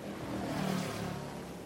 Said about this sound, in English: This is a boat.